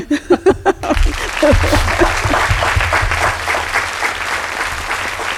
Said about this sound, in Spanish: Pues un aplauso para ti.